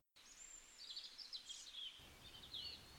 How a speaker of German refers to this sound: Aber vielleicht kommt das Piepen ja auch von ganz woanders. Denn auch jetzt in diesen kalten Tagen lassen sich draußen so einige Vögel beobachten.